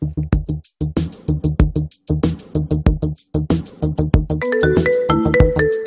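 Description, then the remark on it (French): A mobile phone ringtone for an incoming call plays loud, a fast repeating electronic pattern of short pulsing beeps that shifts into a brighter melodic jingle near the end, with no voices. “Et bien justement, voici Camille qui appelle Nawel au téléphone sur son portable.”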